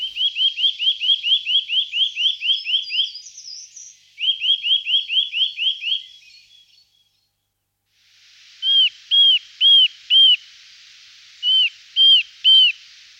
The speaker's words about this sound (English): Nuthatches have a great range of whistles, usually from high in the canopy of mature trees.